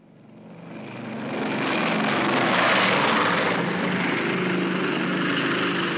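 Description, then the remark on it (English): B-29 special bomber propeller engines, on a plane built for speed and distance, drone loudly, swelling in over the first second and a half, then holding a steady, dense roar with low throbbing hum beneath. No voices are heard. “My plane was a B-29 special. It was called the Necessary Evil. It was built for speed and distance.”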